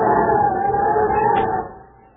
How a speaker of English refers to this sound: The scene is the Buzzard's Gulch Saloon. It's a cold night and the wind is howling outside.